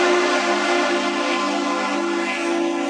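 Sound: vehicle horn honking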